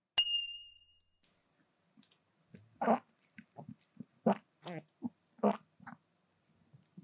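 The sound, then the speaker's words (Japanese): Glasses clink once in a toast, a bright ringing tone that fades over about a second, followed by quieter, irregular sounds like sipping and swallowing. “では、一週間出先でのお仕事になりますが、お互い頑張っていきましょう。乾杯。”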